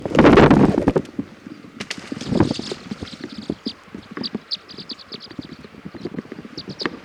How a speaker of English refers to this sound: I'm going to throw a rock at the tree to get the flock to fly.